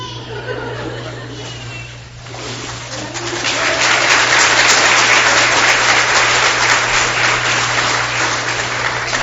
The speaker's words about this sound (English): I know y'all were applauding for me just then, right?